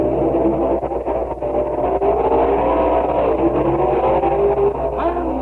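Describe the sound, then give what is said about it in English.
Several stock car engines roar and rev loudly together at the National Stock Car Championship at Detroit Flagway, a dense, continuous mechanical drone with rising and falling pitch, no voices, filling the whole stretch. “Event, the National Stock Car Championship. Stock car champions from the entire United States competing for $5,000 in prizes.”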